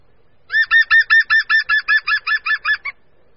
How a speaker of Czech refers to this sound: Poslechněme si proto pro srovnání obě žluny. Nejdříve pokřik žluny zelené.